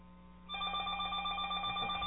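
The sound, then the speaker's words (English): A telephone rings steadily with a bright, trilling electronic tone, an incoming call to the Rant Radio show, starting after a brief quiet moment and continuing without pause, moderately loud. “I'll answer it. Who is it?”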